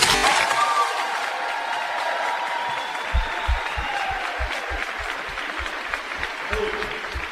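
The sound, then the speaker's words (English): A large audience applauds the class of 2022 in a dense, steady wash of clapping that holds for several seconds, with a regular thumping rhythm emerging partway through beneath the applause. “Now, can we get a round of applause for the class of 2022?”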